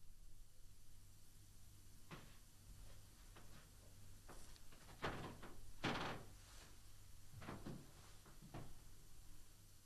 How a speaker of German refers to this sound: Du, wir können die nicht verarschen, die Leute, man hört dieses Knarzen, dass du hier noch drin bist.